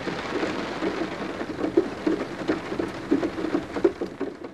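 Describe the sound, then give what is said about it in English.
Steady rain falls in a forest, a dense hiss with soft patters and occasional heavier drops hitting a surface, constant throughout, with no voices. “The birds aren't singing in the forest today because it's raining.”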